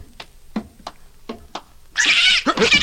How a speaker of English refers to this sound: It's a cat! A cat! Get away! Get away! Stop kicking my cat! Devil scratch! Stop it, I say!